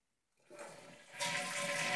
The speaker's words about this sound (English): When you're done, please, please double flush. My nose is being tortured in here.